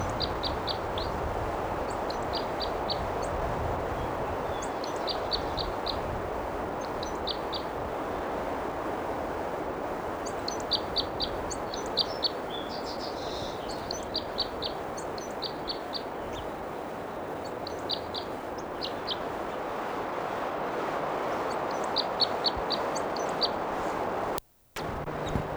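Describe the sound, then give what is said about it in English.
A bird sings in short bursts of quick, high-pitched chirps, repeated phrase after phrase over a steady rushing background hiss; no voices are heard. “There's a bird still singing.”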